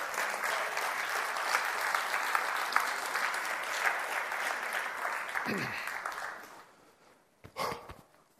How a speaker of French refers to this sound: Amen. On va applaudir le Seigneur.